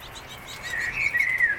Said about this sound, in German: Gib uns ein bisschen die Meisen. Gib uns ein bisschen die Meisen. Ja. Da hört ihr sie.